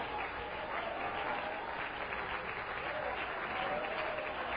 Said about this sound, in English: Let's raise our hands, clap our hands, stand in the name of Jesus.